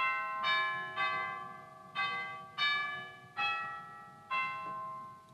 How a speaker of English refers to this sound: And even chimes.